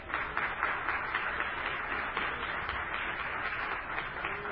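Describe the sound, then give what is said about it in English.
A church audience claps their hands for the Lord steadily for several seconds, a dense, even wash of many overlapping claps with no voices heard. “How many have intentions of being in the bride of Christ? Clap your hands for the Lord.”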